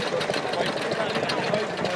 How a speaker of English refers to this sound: It's all equipment, you know, running on diesel that would be in a farmer's field doing stuff well before the era of electric or power takeoff. At the Clonmel Show, stationary engines, everybody needs to hear and smell them.